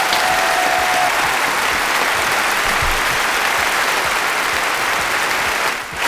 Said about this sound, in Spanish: ¿Has visto cómo lo quiere nuestro público? Como diría más de uno, esos son aplausos demoledores.